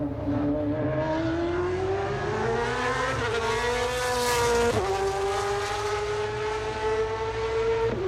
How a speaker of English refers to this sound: It sounds like an F1 car. Okay. But a more modern F1 car. It's a turbocharged F1 car, I think. It's not revving as high as the previous generation non-turbocharged cars did. Okay, that's a Ferrari 458 GT2.